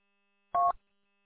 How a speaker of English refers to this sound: And my phone is ringing. I got to deal with this.